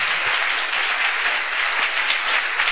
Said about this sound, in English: Oh, you want to clap, clap please. Everybody.